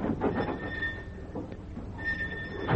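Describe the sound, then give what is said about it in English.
A door creaks open with a drawn-out squeal as men leave, creaks again a moment later, and then shuts with a solid thud at the end. No one speaks. “There's the door. Take your engine part and get out.”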